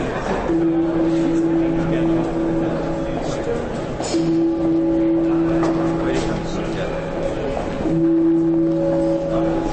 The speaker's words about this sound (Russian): Это был не колокольный звон, который в Берлине можно тоже часто услышать. Это своеобразный колокольный звонок, приглашающий на концерт Берлинской филармонии.